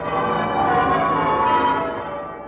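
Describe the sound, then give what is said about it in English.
The church bells of Westminster Abbey, London, ring for victory on V-Day, continuously in a dense, overlapping peal, loud and reverberant, with no voices present. “Those are the bells of victory ringing on V-Day in Westminster Abbey, London.”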